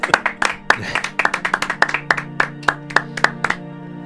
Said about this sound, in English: Round of applause, please, Murph, for Sebastian Barry.